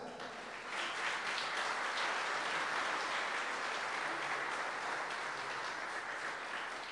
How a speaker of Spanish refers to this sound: Así que vamos a aplaudir al dúo ….